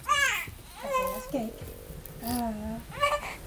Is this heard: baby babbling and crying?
yes